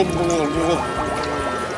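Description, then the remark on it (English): A person gurgles and burbles with their head underwater, a continuous bubbly warble of wavering tones lasting under two seconds. “This is more like head under the water.”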